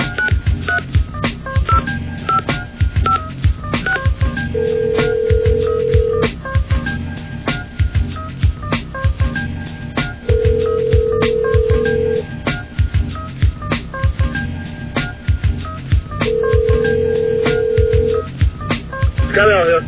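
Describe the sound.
A telephone rings on the line, three steady tone bursts spaced evenly apart, over a busy background of low murmuring voices and clatter that continues throughout.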